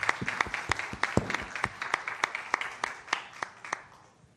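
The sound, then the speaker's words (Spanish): An audience applauds steadily as a pastor is welcomed to bring the word, many sharp overlapping claps forming a continuous patter that gradually thins and softens toward the end. “Pero yo quiero que le den un aplauso”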